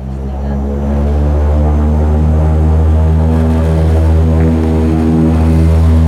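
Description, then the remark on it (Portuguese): A small propeller airplane with just over 20 passengers aboard departs for the island of Corvo. Its engines drone loudly and steadily, a dense harmonic hum that swells as the aircraft powers up and moves off, continuous throughout. “Ao fim de 4 dias sem voos, o pequeno avião, com pouco mais de 20 lugares ocupados, parte para o Corvo.”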